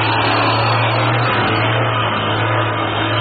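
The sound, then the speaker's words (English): A heavy truck with its headlights on, carrying a hoist like a gigantic derrick on the back, approaches; its engine rumbles steadily and loudly, a deep low hum under a broad wash of motor noise that holds constant throughout, with no voices. “Sounds like the truck they were talking about.”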